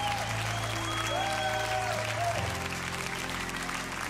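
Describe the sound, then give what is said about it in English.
A church audience applauds in praise of God in a dense wash of clapping, with a few whistles and tonal bits of sound riding over the crowd noise, sustained and loud throughout. “No, come on, let's praise Him. Just 10 seconds.”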